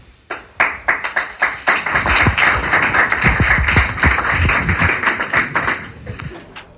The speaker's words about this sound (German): Das war dann auch der erste Applaus, weil es tatsächlich diese sehr die Perspektive einer Betroffenen ist, die sich mehrere Jahre sozusagen in den Kampf begeben hat mit einem Investor.